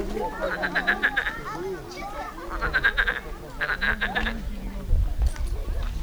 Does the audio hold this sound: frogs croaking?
yes